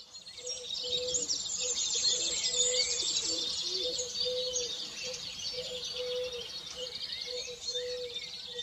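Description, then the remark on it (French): Many small birds chirp and twitter continuously in a dense chorus at sunrise, with a low dove-like cooing repeating steadily underneath, fairly loud throughout. “À peine le soleil levé, les chants des petits oiseaux m'éveillent et m'émerveillent.”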